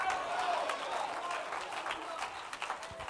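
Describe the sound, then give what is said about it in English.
An audience claps during a sermon in a steady, dense patter of many hands, fairly loud and continuous, with a murmur of voices mixed in throughout. “And some of y'all just clapping real shallow and nonchalant.”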